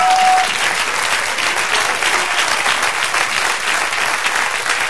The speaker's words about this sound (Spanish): Y da el aplauso, celebran.